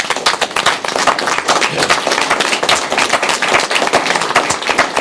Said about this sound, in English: And I'm proud of the commitment in them defining what success looks like for the port and then delivering. So I think they deserve a round of applause.